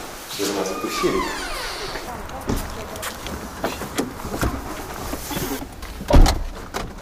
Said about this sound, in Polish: Powiedziałeś, że drzwi mamy? Co mamy? Drzwi.